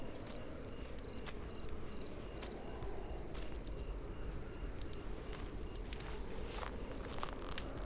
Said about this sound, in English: He paces up and down, trying to keep warm. Hearing the footsteps, the Temarian sits up and looks over at Picard.